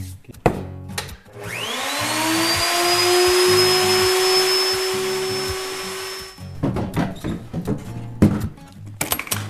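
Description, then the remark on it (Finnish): A vacuum pump sucks the air out from under the rubber membrane of a press to give even clamping pressure for gluing an acoustic guitar's top and back; it starts with a rising whir and settles into a steady, loud hum with a high whine for about five seconds, then cuts off, surrounded by clunks and handling noises. “Tää tämmönen kumikalvo päällä ja sit täältä imetään ilmat sisältä pois ja saadaan tasainen puristus.”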